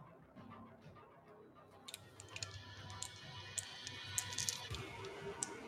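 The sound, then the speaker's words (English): Several six-sided dice (D6s) clatter and tumble together, producing a burst of quick, irregular hard clicks and taps that continue for a few seconds over a low hum. “I need to find some rolls to put these D6s.”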